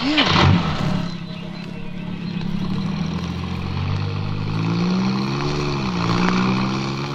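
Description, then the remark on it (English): An old car, a jalopy, starts its engine with a burst of noise, then settles into a steady, rumbling drone that rises and dips in pitch as it revs and pulls away, fairly loud throughout. “This jalopy should get us to Faversham in double quick time.”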